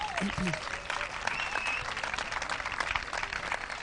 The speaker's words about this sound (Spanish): Pues con esta iguala, 288 kilos a Basic en primera posición. De momento aplauden, un aplauso para ellos, por favor, que igualan.